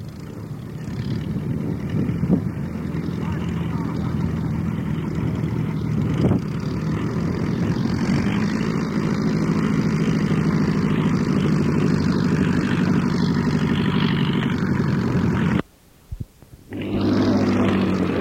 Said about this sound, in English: Now we got a Luscombe Phantom coming up behind it here, 65 horse Franklin. Let's see what it sounds like.